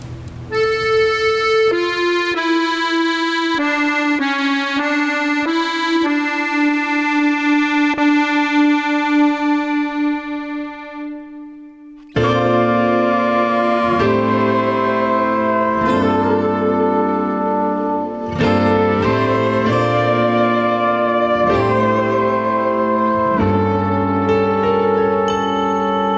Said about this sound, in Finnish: Kuunnellaan pieni kappale tässä välissä. Sanoit, että hengellistä musiikkia.